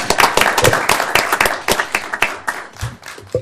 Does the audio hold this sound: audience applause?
yes